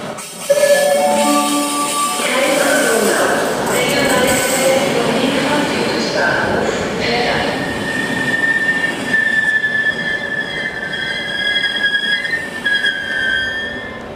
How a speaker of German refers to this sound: Jetzt bin ich hier am Bahnhof.